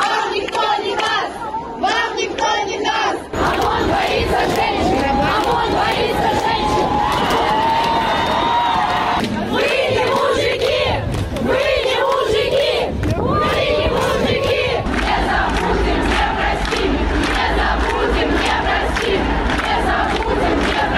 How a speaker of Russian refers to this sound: Минувшие выходные опять прошли под знаком многотысячных протестов в Беларуси. В субботу состоялся так называемый «женский марш», который надолго запомнится своими креативными лозунгами и кричалками.